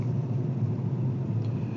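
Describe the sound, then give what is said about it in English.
Low, steady road rumble from inside a moving car, a continuous engine and tire drone with no voices, holding at an even level throughout. “So, just a little distracted by traffic, of course, which I should be paying attention to the traffic, and behold, I am.”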